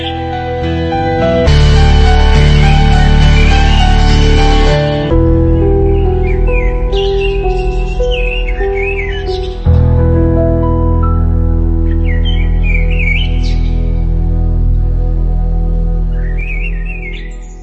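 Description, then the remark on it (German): Rose-ringed parakeet calls: short, shrill squawks that recur every few seconds, set against a loud, sustained musical backdrop that shifts in sections. No one speaks. “Der Halsbandsittich, eine exotische Vogelart, die ursprünglich aus Indien und Afrika südlich der Sahara stammt, hat sich erfolgreich an den urbanen Lebensraum in Rumänien angepasst.”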